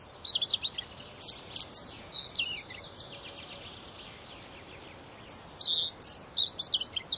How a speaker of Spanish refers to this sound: El zorzal petirrojo también llama a su pareja.